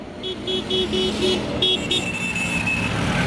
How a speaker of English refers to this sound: Here comes the bus for the factory.